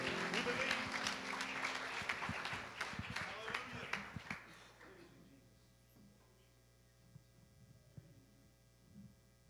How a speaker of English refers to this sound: come on, give him a hand clap of praise as we sing this last song.